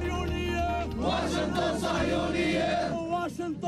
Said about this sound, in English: We know that standing here and listening to the young people shouting their whatever they want to say doesn't bring us nearer to our cause, to our the solution. But at least you feel you want to express your anger.